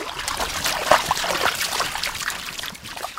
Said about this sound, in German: Der Fluss ist nicht mehr als 1 Meter breit und gerade mal knietief. Er ist in den vergangenen Monaten immer weiter ausgetrocknet, weil es nicht geregnet hat.